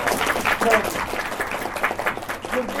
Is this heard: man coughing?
no